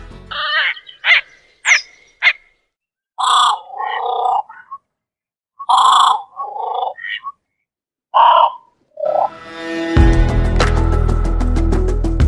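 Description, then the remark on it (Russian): A grebe gives a run of harsh, nasal croaking calls mixed with short high squeaky notes in irregular bursts, loud against silence. Music then swells in and continues to the end. “Набор звуков у поганки очень богат.”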